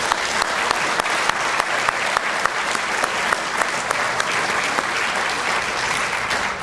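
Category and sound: crowd, round of applause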